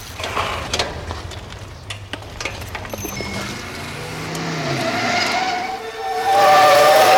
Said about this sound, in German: Vorsicht, Peter, das rote Auto da! Wo kommt der denn auf einmal her?